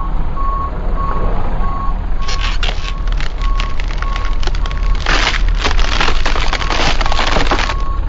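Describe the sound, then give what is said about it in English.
A large truck reverses into a driveway with its backup alarm beeping steadily at a regular pulse, engine rumbling loudly underneath, with cracking and splintering noises as it runs over a sign. “bring the truck over this way a little more.”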